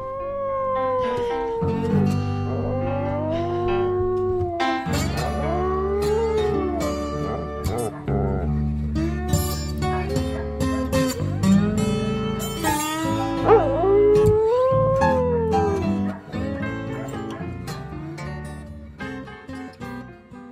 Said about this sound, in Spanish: Nos vamos con Seamus, el perro cantante de blues.